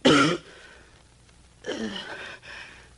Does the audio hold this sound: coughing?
yes